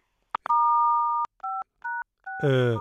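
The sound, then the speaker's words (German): A few clicks, then a series of telephone keypad tones as someone plays with the phone keys during a call: one long two-pitched beep followed by three short ones in uneven rhythm, with a voice starting to speak over the last tone. “Jetzt hat irgendwer spielt da gerade an den Tasten rum.”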